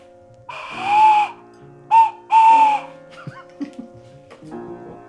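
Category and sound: bird, tawny owl hooting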